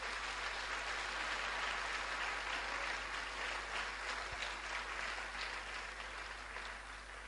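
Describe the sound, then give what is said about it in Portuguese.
A crowd applauds steadily for Jesus, a dense wash of many hands clapping at an even level for several seconds, with no voices rising above it, tapering slightly at the end. “Então, mais uma salva de palmas para Jesus.”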